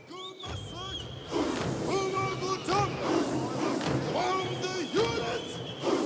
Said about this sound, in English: a very distinct protest style. It's called the toy toy. And it's kind of a rhythmic march, accompanied by singing, whistling, clapping, and chanting. The sound that you're hearing comes from the documentary Amandla, A Revolution in Four-Part Harmony.